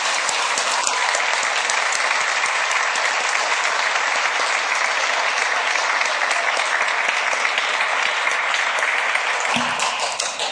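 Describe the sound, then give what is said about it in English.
A crowd claps steadily and loudly, dense overlapping hand claps forming a continuous wash of applause that holds at the same level for about ten seconds, with no voices heard. “I think we should give him a big round of applause for representing South Dakota so well in our ag community.”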